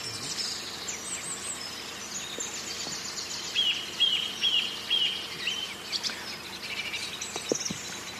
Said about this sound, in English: Yes, we think it's a sedge warbler, which we certainly had one yesterday as well. There was a sedge warbler singing in front of us. And they tend to do, be a little bit more sort of all over the place than a reed warbler.